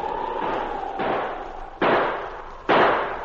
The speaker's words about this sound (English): That is Bartok and Yatke who shoot at them.